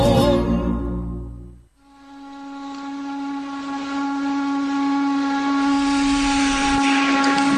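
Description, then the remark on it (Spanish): A chimney steam whistle shrieks in one long, steady, piercing tone over a breathy hiss, after a brief low rumbling burst at the start. No one speaks. “La chimenea.”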